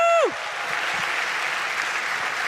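An audience breaks into sustained applause, a dense wash of clapping that stays steady and fairly loud throughout, right after a brief trailing tone at the very start.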